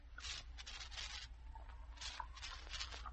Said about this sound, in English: All right, get the glasses. Drop in the ice. Open the bottles. Pour out the Coca-Cola.